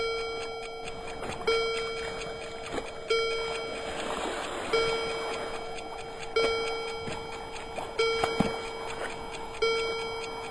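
A clock chimes seven times in a steady, unhurried rhythm, each ringing bell-like stroke sustaining and overlapping the next. The strikes are fairly loud, with no voices.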